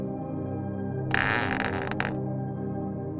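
A castle entrance gate, flanked by two light stone statues and two turrets, creaks open in a single grinding squeal lasting about a second, rising out of a steady low hum that continues after it stops.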